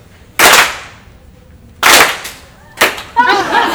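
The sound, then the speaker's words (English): Several loud, sharp hand claps at uneven intervals, each a crisp smack with a brief ringing decay; a short burst of voice follows the last clap. “Only if I clap.”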